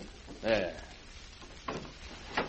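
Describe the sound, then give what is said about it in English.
A telephone is set into a drawer: two soft thuds and scrapes about a second apart, following a brief muffled vocal sound, over a faint background hiss. “I'll just stick the phone in this drawer.”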